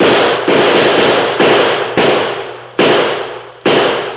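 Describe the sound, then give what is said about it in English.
Six loud gunshots fired out of a window ring out at uneven intervals, each a sharp crack that trails off into a brief rumbling echo before the next. No one speaks. “Pump some more slugs out this window with me.”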